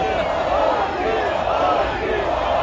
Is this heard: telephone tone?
no